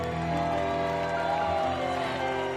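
A crowd roars and cheers loudly and steadily, many voices yelling together in a dense, sustained wall of sound with no pauses.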